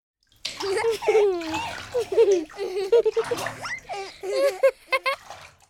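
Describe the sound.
High-pitched children's voices chatter and squeal while water splashes in short bursts in a bathtub, the sloshing coming and going under their playful sounds.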